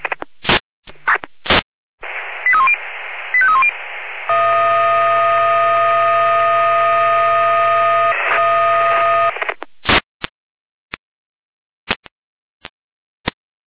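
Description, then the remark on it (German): Fire brigade radio alerting tone over a narrow, crackly channel: quick stepped beeps, then a steady buzzing multi-tone held about five seconds with a low hum, framed by sharp squelch clicks and bursts. “Wechsel hin mit Alarmierung.”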